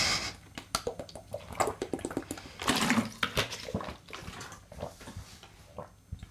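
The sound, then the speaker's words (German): Wet drinking sounds of someone sipping water: a series of sips and swallows with small clicks and liquid sloshing, loudest midway, heard alone with no one talking. “Aber ich trinke jetzt erstmal einen Schluck.”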